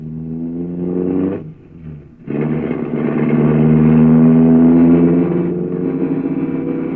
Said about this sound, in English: Good heavens! He isn't going to drive through these narrow streets at this speed, is he? He's used to the streets, Dorothy. I must admit he can't go too fast to suit me right now.